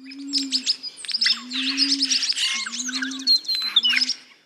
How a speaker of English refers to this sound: It's an entire album of calls from endangered Australian birds.